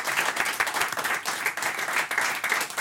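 An audience applauds steadily, a dense wash of many hands clapping at a constant, fairly loud level throughout, with no voices rising above it.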